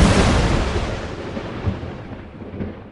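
A deep, rumbling thunder crash fills the space, starting loud and broad, then slowly rolling and fading with a few low swells, with no voices over it.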